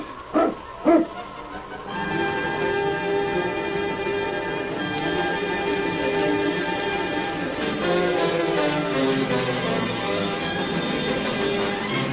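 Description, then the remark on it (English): Husky sled dogs of a Mountie's team, led by the dog King, give two quick, sharp barks at the start, then fall quiet as a steady, ringing bell-like tone rises and carries on to the end. “Get the dogs up, King. On, King! On, you husky!”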